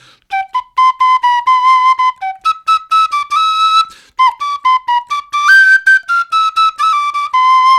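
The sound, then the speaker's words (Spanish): Someone whistles a lively melody, a steady run of short and held notes with a brief pause midway, loud and clear with no talking. “¿Qué tanto silbas”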